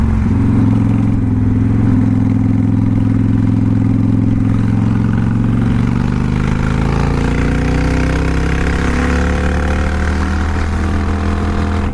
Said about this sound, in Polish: Zakupiłem motocykl, to jest Honda VTX 1300 Retro.